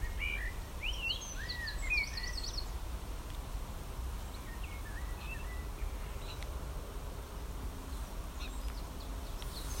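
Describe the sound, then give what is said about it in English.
Birds sing from the trees under a dull, brooding sky in quick, high chirping phrases, a busy burst at the start and another a few seconds later, over a steady low outdoor rumble with no talking. “Although the sky is very dull and brooding, the landscape is very much alive, and you can still hear the beautiful sound of the bird song in the trees.”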